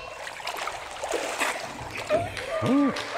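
Water sloshes and splashes as a person is dunked and lifted out during a baptism by immersion, a churning surge of water followed by a short vocal exclamation near the end.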